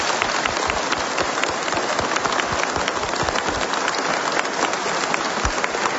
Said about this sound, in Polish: To moi drodzy, może pozdrówmy go teraz właśnie naszymi oklaskami. Bardzo proszę, głośno!